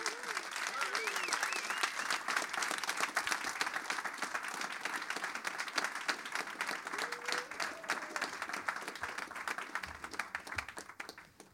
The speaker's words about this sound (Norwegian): Ta väl emot … och …. Applaus.